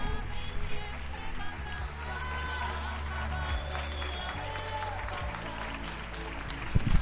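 applause from balconies

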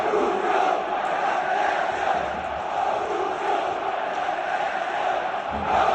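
football stadium crowd chanting

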